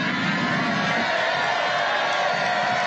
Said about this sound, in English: So the crowd decided to sing Trump happy birthday.